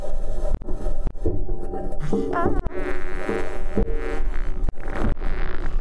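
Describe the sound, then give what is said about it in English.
The Perseverance rover driving over the surface of Mars: steady, loud grinding and rattling, with sharp metallic clicks at irregular intervals and occasional high squeals from the wheels. No one speaks. “And then here is the sound of Perseverance driving on the surface of Mars.”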